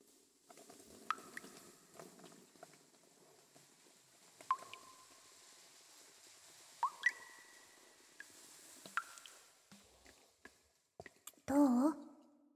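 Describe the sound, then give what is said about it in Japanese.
Soft crackling fizz of fizzy soap lather being worked into hair on the head, with scattered wet pops and squishes over a steady bubbly hiss, and a brief louder vocal sound near the end. “それじゃあ、このまま頭につけて石鹸していくから。”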